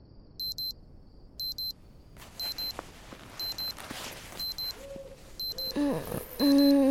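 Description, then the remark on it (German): An alarm clock beeps in repeated double pulses inside a tent at a camp, shortly before 11 o'clock, steady and fairly loud, while rustling and shuffling noises build underneath, ending with a louder clatter and a groaning voice. “Währenddessen klingelt in einem der Zelte ein Wecker.”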